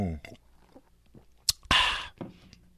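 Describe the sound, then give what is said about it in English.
A brief slurping sip of pink Moscato wine, with a sharp click and a breathy rush of air, followed by a soft swallow. A faint voice murmurs briefly at the start. “Let me take another sip.”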